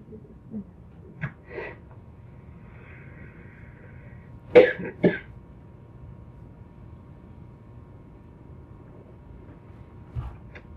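Someone coughs and clears their throat: a couple of small rasps early, a sharper double cough in the middle, then one faint hack near the end, with no talking.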